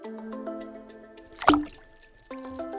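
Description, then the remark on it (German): A single short splash as a cucumber drops into a bowl of water and stays floating at the top, landing midway through, with soft tuneful music playing steadily underneath before and after. “So, jetzt war die Gurke im Wasser, jetzt ist die Gurke auch sauber.”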